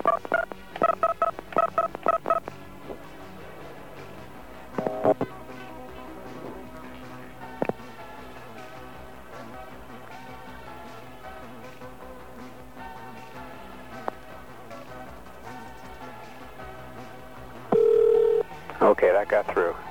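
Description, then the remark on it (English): Telephone keypad dialing tones as the Sprint carrier access code and then a phone number are dialed: a quick burst of short two-pitched beeps at the start, a few scattered single beeps later, and a longer steady tone near the end, all fairly loud over a faint hum. “That's the carrier access code for Sprint, and then we're going to call the same number.”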